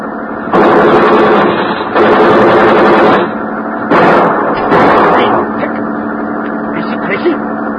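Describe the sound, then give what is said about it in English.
Loud bursts of rapid gunfire, fired in front of a man, crackle out in four rattling volleys, two long and two shorter, separated by brief pauses over a steady, harsh background roar. “We fire in front of him.”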